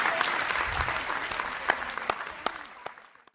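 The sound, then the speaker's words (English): An audience applauds a speaker at the end of a talk, a dense wash of clapping that gradually thins out into a few scattered, sharper claps as it fades away. “Let's give our speaker a round of applause.”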